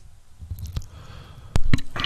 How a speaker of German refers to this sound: Ja, das ist so der Moment, wo du dich schwindelig hustest.